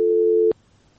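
A steady telephone tone after a listener's call-in to the program drops, one flat mid-pitched beep lasting about half a second that cuts off with a click, then near silence.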